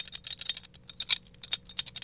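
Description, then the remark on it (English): New thin metal straws rattle and clink together in a backpack inside a car, a busy, irregular jangle of bright tinny clicks with a steady low hum underneath. “She explained that her new metal straws were in her backpack because she and my wife were having boba tea after school.”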